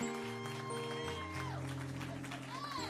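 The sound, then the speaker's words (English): An audience at a church service applauds steadily for about three seconds to welcome the evening's guest preacher, pastor of the New Beginnings Faith Fellowship Ministry, the dense clapping blending with sustained organ chords that shift pitch underneath, while a few voices call out through it. “Come on, y'all, give a round of applause.”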